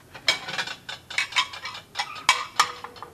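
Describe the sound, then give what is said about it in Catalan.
Dishes and cutlery clink and clatter in a quick, irregular series of bright knocks, like plates being gathered up and stacked, with no voices. “I jo em quedo aquí, a endreçar aquests plats.”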